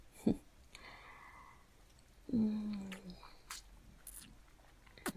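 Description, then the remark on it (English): Quiet wet mouth sounds of a woman on her knees performing oral sex: smacking, slurping and sticky clicks scattered over a few seconds, with a brief low hum in the middle and no talking. “Your somewhat prim and proper neighbor on her knees in front of you, slurping on your cock.”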